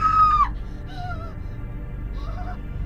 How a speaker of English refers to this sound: I don't know how long she stood there, horrified by the sight. She didn't make her presence known until she screamed.